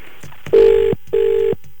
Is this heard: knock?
no